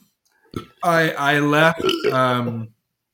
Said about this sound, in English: Oh my god. I just like burped a disgusting burp. I mean, yeah, you heard mine. Jesus, it tastes like alcohol and my own despair is fleeing my body.